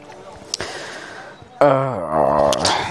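dog whimpering

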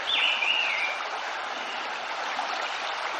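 birds chirping

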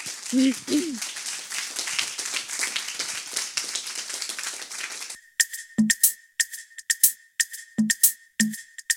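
applause

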